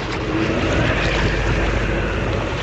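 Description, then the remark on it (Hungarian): A rowing boat being rowed through water against a strong headwind, with a steady, loud rush of gusting air and churning water and no clear individual oar strokes standing out. No one speaks. “Egyszerre húzzuk, különben felborulunk! Húzzál erősebben, a szél ellenünk dolgozik!”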